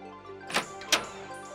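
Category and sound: household object, shop door opening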